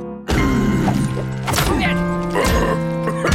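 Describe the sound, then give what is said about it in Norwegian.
A hammer smashes down three times in roughly a second-long rhythm, each loud crashing blow followed by a ringing, clattering tone that hangs on until the next strike. “Hør knuse hammer.”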